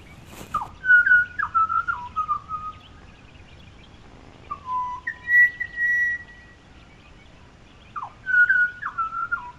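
Clear, flute-like whistled phrases sung by a bird believed to be a butcherbird, in three separate bursts, each built from sliding, piping notes, loud over faint background hiss; a phone recording made in Toowoomba at about 4:40 a.m.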